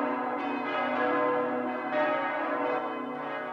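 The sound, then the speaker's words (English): Church bells ring loudly and continuously, fresh strikes blending into a dense, sustained wash of overlapping tones that hums on without pause. No voices are heard. “Let night come on, bells end the day.”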